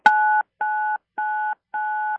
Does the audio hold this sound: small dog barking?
no